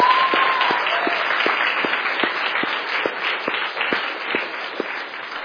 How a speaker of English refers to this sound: You've done a lot of work. How about a clapping hand for the organizers of camp, right?